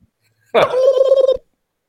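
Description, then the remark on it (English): A person imitates a turkey gobble: one loud, warbling burst lasting under a second, with a rapid fluttering rhythm, standing alone against silence. “Should we maybe do a turkey sound? A gobble.”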